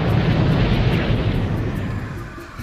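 A huge explosion in Antarctica roars with deep, heavy rumbling and a dense wash of noise, staying loud before slowly fading over a few seconds. No voices are heard.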